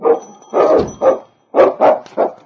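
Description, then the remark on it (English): A dog left behind a closed, solid door claws at it and barks loudly, six sharp barks in two quick sets of three separated by a brief pause, with no voices present. “King clawed at the door and barked a protest at being left behind.”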